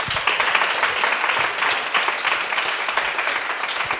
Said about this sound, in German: das macht 29 Punkte und Applaus